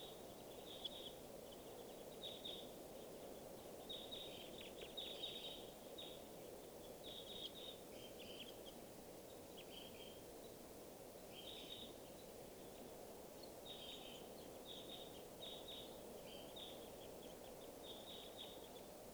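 Type 2 crossbill calls from many crossbills flying over to a watering area: bursts of short, high, sharp kip notes repeat in clusters throughout, fairly soft over a steady low rushing background with no voices.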